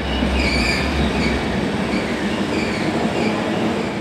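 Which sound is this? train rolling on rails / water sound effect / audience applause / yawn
train rolling on rails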